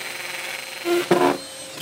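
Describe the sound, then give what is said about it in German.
A power drill whirs in two short bursts, a brief motor whine followed by a louder, rougher grinding spurt as it bites into the wall, over a faint steady hum, as holes are drilled into a wall during home DIY work. “Vater und Sohn vereint beim Heimwerken, beim Lochbohren und Staubsaugerbohren.”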